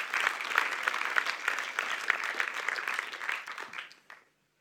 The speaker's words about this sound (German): Vielleicht mal einen kräftigen Applaus für die Leute, die hier Verantwortung übernehmen.